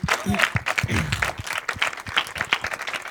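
An audience breaks into sustained applause, many hands clapping in a dense, steady wash with some individual claps standing out, brief whoops or voices mixed in.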